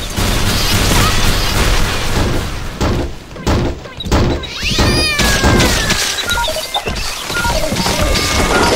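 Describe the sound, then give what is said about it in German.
Several short cat meows rise and fall over a dense, loud clatter of crashing and thumping impacts as a cat races around with a horse, with no one talking. “Jetzt rast die Katze mit dem Pferd durch die Gegend und kriegt sie nicht klein.”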